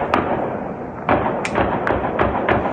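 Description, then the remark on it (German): A quick, irregular string of about six gunshots fired in the middle of the night near the horse racetrack in Aarau, Switzerland, aimed at people at a techno festival: sharp cracks over a steady background hiss, with no voices. “Schnell hintereinander abgefeuerte Schüsse mitten in der Nacht in der Nähe der Pferderennbahn in Aarau, knapp 40 Kilometer westlich von Zürich.”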